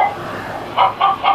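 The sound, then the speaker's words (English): A chicken on top of a casino elevator clucks three times in quick, even succession, fairly loud, after a moment of faint background noise. “There's a chicken here with me.”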